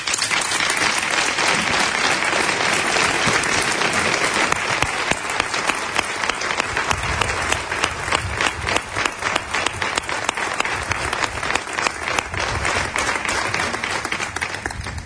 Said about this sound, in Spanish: no voy a seguir hablando si no le dan ustedes una ovación al maestro Espartaco